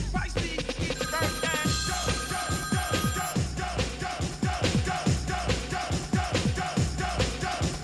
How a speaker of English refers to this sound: As y'all can hear, the hotline is still chiming in, but you know what? It's a little bit too late.